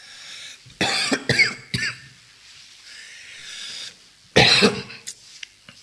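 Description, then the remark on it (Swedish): A fit of harsh coughing: a quick cluster of three or four coughs, a pause, then another loud cough or two, with breathy hiss between bursts and no talking. “Nu får jag hosten då.”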